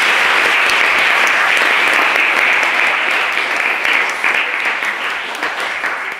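A debate audience breaks into sustained, loud applause for eight debaters, a dense crackle of many hands clapping that holds steady for several seconds before easing slightly toward the end.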